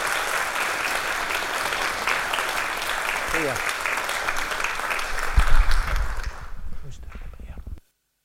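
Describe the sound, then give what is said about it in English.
An audience applauds steadily for several seconds to wish Ross good luck as he goes on to the Conservatoire in Manchester, a dense wash of clapping that swells briefly with a low thump, then fades out quickly to silence. “So I think we should say good luck to him and give him a round of applause.”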